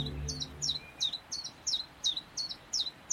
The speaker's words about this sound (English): Each year, a huge wave of willow warblers floods in from Europe, filling woods and parks with their song.